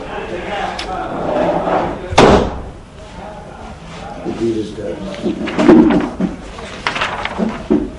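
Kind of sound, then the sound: household object, door being closed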